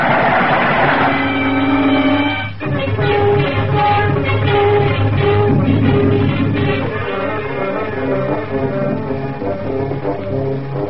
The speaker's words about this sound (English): There's the switch up ahead. Come on. Here comes the train now. We'll make it.